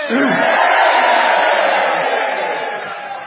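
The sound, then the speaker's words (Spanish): A crowd lets out a loud, sustained collective shout, a "grito de rebeldía" (cry of rebellion), many voices yelling together in one roaring cry that holds steady for about three seconds before slowly tapering off. “Grito de rebeldía, ahora.”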